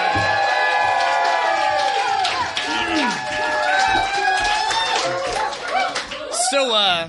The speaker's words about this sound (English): And also today is his 30th birthday. So please, give a big round of applause